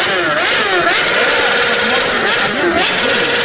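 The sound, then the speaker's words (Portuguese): A motorcycle engine in a street race revs loudly, its pitch repeatedly climbing and dropping in quick throttle bursts over a steady roar. “Pois é, nesse negócio de racha de motocicleta, o cara deu no poste.”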